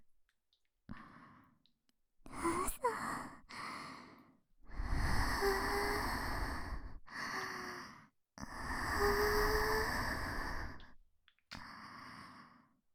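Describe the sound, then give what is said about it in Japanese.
A series of soft, breathy exhalations blown right up close to the ear, some short and some long and drawn out, separated by brief pauses, with no talking. “耳元に吐息吹きかけられるだけでも気持ちいいんだ。”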